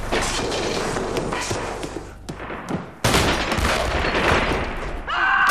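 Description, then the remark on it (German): Heavy, rapid gunfire crackles in dense overlapping volleys as police under Police President Zörgiebel fire on communists, eases into a brief lull of scattered shots, then erupts again loudly, with a high tonal whine entering at the very end. “Jedenfalls hätten wir verpasst, wie Polizeipräsident Zörgiebel die Kommunisten schon mal vorsorglich unter Beschuss nimmt.”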